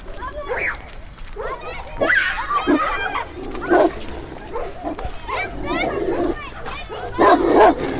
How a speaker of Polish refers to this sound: Nie no, to nie do zniesienia. Czemuż ten pies tak hałasuje? Takie ogromne bydle może być niebezpieczne. Do mnie pani mówi? A do kogo? To chyba pana pies ujada tak nieznośnie.